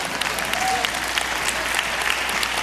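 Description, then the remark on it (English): An audience at a church applauds steadily, a dense wash of many hands clapping at a moderate, even level for a few seconds, with no voices standing out. “Yeah, you clap. That's fine.”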